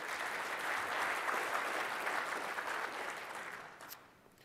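An audience claps steadily for several seconds after a Windows 10 IoT Core demo on a Raspberry Pi 3, a dense, even patter of many hands that fades out toward the end.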